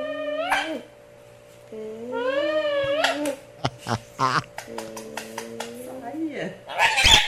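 A parrot mimics the smooching kiss noise a mom makes, a few quick wet smacks mixed in with squeaky, wavering whistled calls, fairly loud, ending in a harsher burst.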